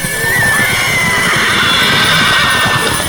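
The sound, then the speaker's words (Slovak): Several horses in a stable whinny and neigh over a dense, steady clatter of stomping hooves, a loud, busy commotion filling the whole stretch without any talking. “Nastal ohromný dupot a erdžovie.”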